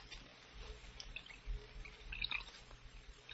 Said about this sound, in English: You'll have to pour the wine yourself, Harvey. All right, I will.